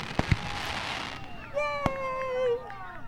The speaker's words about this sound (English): Hang on, let me find my little fireworks one.